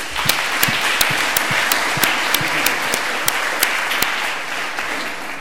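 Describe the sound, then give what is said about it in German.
An audience applauds a demonstration of two exploits at once, including a remote root exploit via Samba, a steady, dense wash of many hands clapping with a few sharper individual claps standing out at an irregular rhythm. No one speaks over it. “Vielleicht zwei Exploits auf einmal, da auch ein Applaus.”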